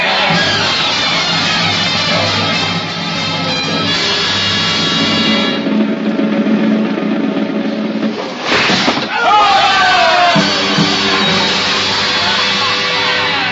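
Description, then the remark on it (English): A large, angry mob lining the Paris streets at guillotine executions yells and screams in a loud, continuous roar of overlapping voices, screaming out the count as heads drop, briefly dipping near the end before surging again. “As a head drops in the basket, it is held aloft and the mob screams out the count.”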